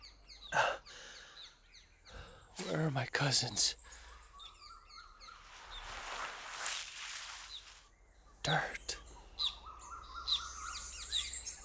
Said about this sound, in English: Birds. Trees. Earth. Mi tierra.